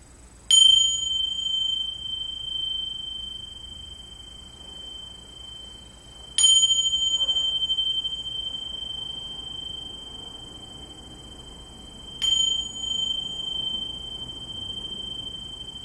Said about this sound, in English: And so I'm going to ring this beautiful bell 3 times. And let that bring you into your secret place within, no matter how old you are.